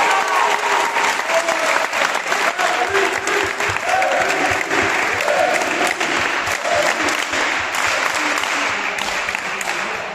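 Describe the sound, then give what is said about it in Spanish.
An audience applauds steadily for about ten seconds for the Centro Joven, organizer of a 12-hour sports event, a dense, loud wash of many hands clapping at once, with faint voices and cheers mixed into the crowd noise. “y desde luego el primer aplauso que tenemos que arrancar es para el Centro Joven,”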